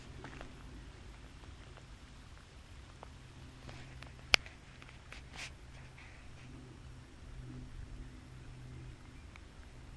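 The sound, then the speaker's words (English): A rain sound effect: a steady, soft hiss of falling rain with scattered light drop ticks and one sharp click partway through. No voices. “Here's some rain sound effects.”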